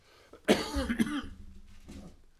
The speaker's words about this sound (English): Not going to be long, I'm going to start coughing, I can tell. Got that tickle.